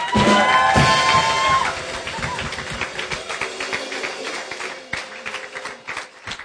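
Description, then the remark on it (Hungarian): Dense, crackling applause from an audience at a Keresztény Közösség Egyház church gathering, welcoming a speaker; loudest in the opening seconds with a brief tonal cheer, then settling into steady clapping that thins slightly toward the end. “Szeretném, hogyha most nagy szeretettel és egy nagyon nagy tapssal köszöntenétek”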